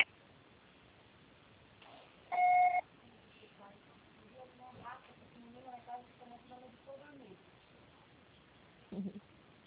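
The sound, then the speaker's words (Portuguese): A single loud voicemail beep, a steady electronic tone lasting about half a second, rises out of near silence after a Portuguese-language prompt to leave a message; quieter talking follows afterward. “Fala após o sinal. Grave seu recado para.”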